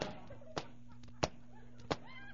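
Three sharp, evenly spaced clicks of high French heels stepping along a town street overhead, each a crisp tap with a brief ring, over a faint steady hum.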